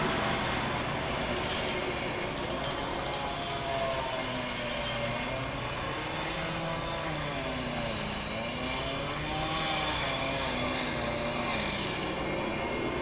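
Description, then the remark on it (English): Steady, loud mechanical din of heavy construction work heard from a rooftop, a continuous grinding drone with shifting whining tones and a harsh high hiss, with no voices. “I was on the roof, but I don't know if you can hear it, but there's some heavy construction going on.”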